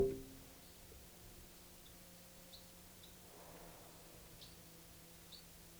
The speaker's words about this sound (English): It's flight calls. 305 there, and 306 was giving alarm.